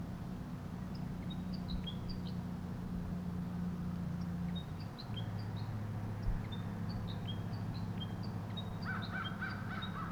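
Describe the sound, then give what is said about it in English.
A wild male bird calls or sings from above, repeating short, high chirps with a burst of harsher notes near the end, over a steady low rumble of background noise. “The wild bird above me continues to call or sing.”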